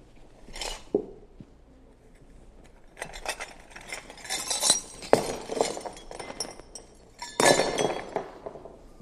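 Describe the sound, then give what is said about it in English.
Ceramic cups inside a bag are smashed by hammer blows, several loud crunching impacts followed by the clinking and rattling of broken shards shifting around. No one speaks. “Each of those cups was whole when it was put in the bag and when the hammer got to them.”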